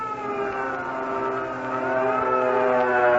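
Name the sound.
air raid alert siren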